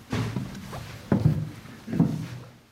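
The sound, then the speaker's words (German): Footsteps of a pastor climbing the steep wooden stairs up into the belfry of a church bell tower: a few heavy, hollow thumps land at an uneven pace, with low creaking and knocking of wood between them. No voices are heard. “schließt die Tür zum Glockenturm auf und steigt die steile Holztreppe nach oben in den Glockenstuhl.”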